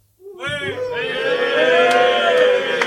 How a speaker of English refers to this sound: We want to hear, we would say show of hands, but that doesn't translate well sonically. So let's have a cheer. Four, first of all, no more KDE. Gnome?